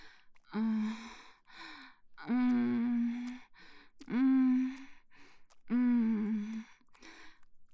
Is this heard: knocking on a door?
no